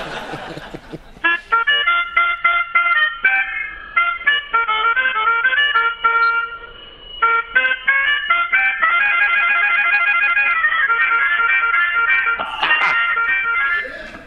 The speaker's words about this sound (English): would you mind just letting everybody hear how a little old melodica sounds? Oh, yeah, I'll give it a little toot for you.